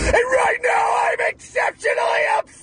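A loud, angry screaming yell delivered in several strained bursts with brief breaks between them and no ordinary speech.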